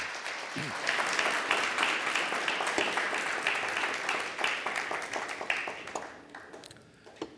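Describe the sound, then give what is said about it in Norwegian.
Warm audience applause for the worship singers in a church, a dense steady clatter of many hands clapping at an even loudness for several seconds, then thinning out and tapering off toward the end. “La lovsangerne få en god og varm applaus.”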